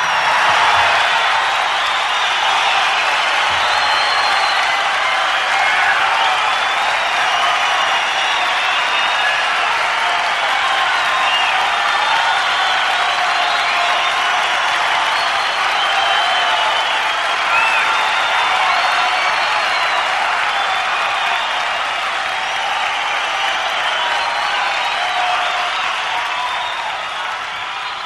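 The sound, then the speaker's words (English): A concert audience at the Santa Monica Civic on October 20, 1972 claps and cheers in a standing ovation calling for an encore, a dense, loud wash of applause that holds steady for nearly half a minute before easing slightly at the end. “The applause”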